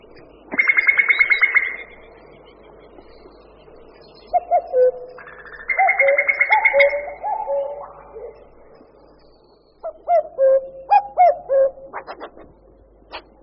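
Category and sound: bird, common cuckoo calling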